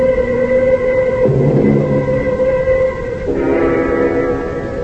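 A passenger train, the Ossining train, rolls along the rails with a steady, loud rumble and droning metallic tones that shift pitch twice, with no one speaking.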